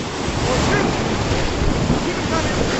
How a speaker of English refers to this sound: The sound of the audio got a little jumbled as water splashed the GoPro.